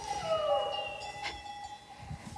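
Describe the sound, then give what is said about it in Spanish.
A cow of the native Pirenaica breed lets out a drawn-out, descending moo over a steady outdoor background with faint ringing, bell-like tones and a brief clank partway through, in green countryside at Echagüe, in the Valdorba area about 25 km south of Pamplona. “Y como bien dices, en compañía de vacas de la raza autóctona pirenaica.”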